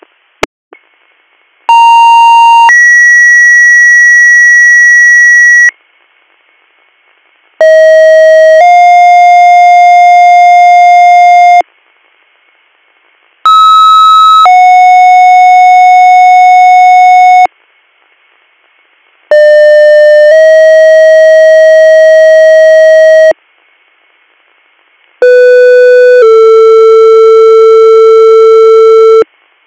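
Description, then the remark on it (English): Five loud bursts of fire dispatch alert tones, second-due tones for a possible CVA call in Union Township, each a brief tone stepping into a longer sustained one, buzzy and harmonic, with short silent gaps between sets and no voices. “Stand by for second due tones for CVA Union Township.”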